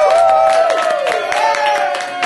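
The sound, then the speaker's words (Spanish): A crowd applauds steadily at a taping of the show Dulce Compañía at Celebrate Puerto Rico, celebrating a birthday. The dense clapping mixes with loud, sustained cheering and whoops that hold and slide in pitch throughout. “¡Fuerte aplauso!”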